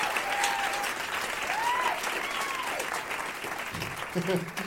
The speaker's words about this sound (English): And let's have a big round of applause for all of my guests